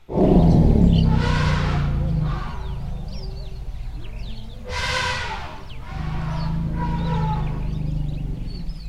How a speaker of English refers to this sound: Okay, we have another clip, and this is the sound that the elephants make when they hear the voices of a nearby tribe. Let's hear that one.